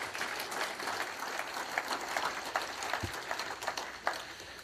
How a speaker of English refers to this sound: Give Ed a big round of applause, please.